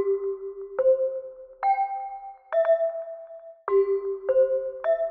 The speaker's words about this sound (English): and the idea was that at the end of each program, the announcer who's at the microphone and is saying, this is the National Broadcasting Company, would strike a seven-note chime sequence on a set of hand chimes that he held next to the microphone.